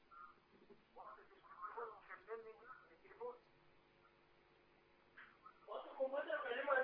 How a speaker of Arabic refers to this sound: أرجو أنك توطي التلفزيون. السلام عليكم. عليكم السلام. وطي التلفزيون وكلمني من التليفون.